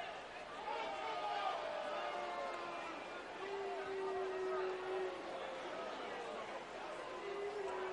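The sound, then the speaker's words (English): A baseball crowd at a Kannapolis game in the ninth inning murmurs steadily, and long, drawn-out boos rise from the fans and hang over the noise, swelling in the middle and again near the end. “Fans booing here for Kannapolis.”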